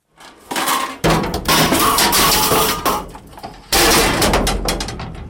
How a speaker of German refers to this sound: Es klopft und schädert, wenn die Leute ihr Alteisen in die Mulde schiessen. Fast in jeder Gemeinde steht eine, auch in Aarau im Werkhof. Farbkübeln, alte Schrauben, BB-Wägeli. Alles Mögliche bringen die Leute